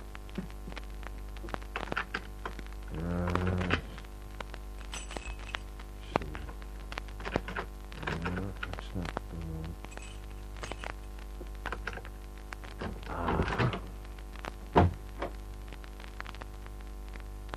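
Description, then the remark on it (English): Skeleton keys scrape and click in a door lock as it is picked, an irregular series of metallic rattles and taps over a steady low hum, with no voices. “After a couple of minutes of pressing the gold-plated buzzer, I took out my skeleton keys.”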